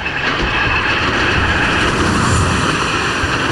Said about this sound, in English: Another train hurtles towards their platform without stopping.